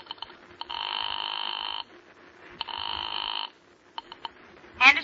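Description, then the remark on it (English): A telephone is dialed with a few quick clicks, then two long, buzzy rings sound, followed by more clicks and a sharp clatter at the end. “Your hand is shaking as you pick up the phone and dial a familiar number.”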